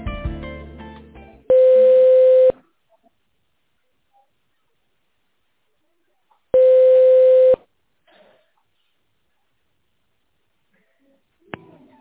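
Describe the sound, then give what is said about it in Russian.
Two long, steady telephone ringback tones, each about a second long, separated by several seconds of near silence, with a brief burst of sound before the first ring and a faint click near the end, as a call to a company waits to be connected to an employee. “Дождитесь соединения с нашим сотрудником.”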